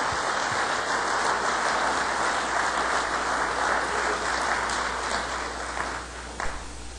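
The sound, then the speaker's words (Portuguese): A large crowd claps steadily and densely, a sustained wash of applause lasting several seconds before tapering off slightly near the end, applauding Jesus during a sermon preached in English and Portuguese. “Give Jesus a praise. Aplauda o Senhor Jesus.”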